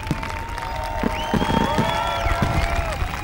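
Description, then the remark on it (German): Fireworks crackle and pop in a dense, steady patter, with long whistling tones gliding and holding above the noise throughout. “Das ist kein Gewitter, sondern nur ein Feuerwerk.”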